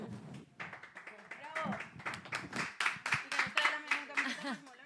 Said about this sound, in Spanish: Eventos tan importantes como los premios Goya, así que un aplauso para este gallego que adoramos.